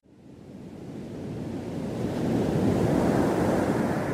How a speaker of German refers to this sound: Massive Wellen rollen heran am Rialto Beach, einer der westlichsten Punkte der USA.